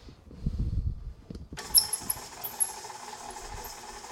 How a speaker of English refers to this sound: Now that the sugar and the butter are in there, we're gonna cream them. That means blend them until it's all one thing. Here comes my squeaky mixer.